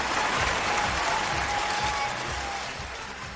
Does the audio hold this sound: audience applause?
yes